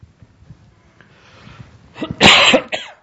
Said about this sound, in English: This little black thing on my chest and coughing and handkerchiefs don't go together, so excuse me here.